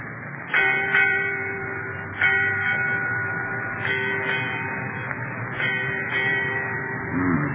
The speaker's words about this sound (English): Eight bells, Captain. Aye. Eight bells, mate.